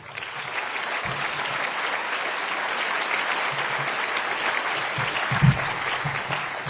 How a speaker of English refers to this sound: So can we get a round of applause for DC-801?